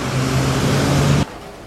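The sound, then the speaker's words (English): A steady rumble of car traffic on a street, with a low engine hum and broad road noise, holding evenly for about a second before cutting off abruptly to a quieter background. “And this was supposed to be a very intimate conversation, then usually I would take like very much of the background sounds away, so you wouldn't hear the cars in the street.”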